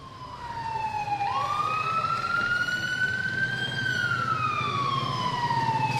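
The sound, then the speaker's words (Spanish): An ambulance siren wails in one long, slow rise and fall over a low road rumble, steady throughout with no voices. The ambulance arrives to pick up a badly injured stabbing victim and takes her to Hospital San Marcos in Chinchiná. “Cuando llegó la ambulancia, la bajamos para la ambulancia.”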